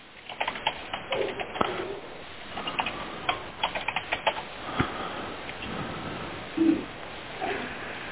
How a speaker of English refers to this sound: is still typing.